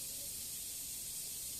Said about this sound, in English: Oh, there's some kind of, like, hissing noise. Do you hear that? Air conditioning. Oh, because it's soundproof. Okay. So, air is flowing in.